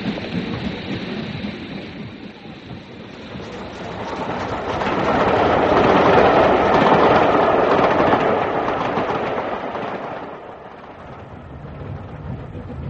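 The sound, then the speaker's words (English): A passenger train to Glasgow pulls away, its heavy rumbling and clatter swelling to a loud, roaring peak midway before gradually easing off as it recedes. No voices are heard. “If it's a Glasgow train you want, you missed it.”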